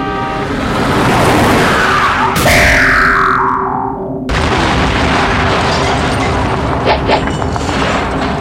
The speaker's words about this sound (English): the control key will send a rocket... a rocket-powered police car to kill things. You can use that as many times as you would like, which is not realistic.